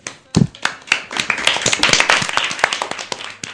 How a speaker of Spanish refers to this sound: Y nos despedimos con un fuerte aplauso.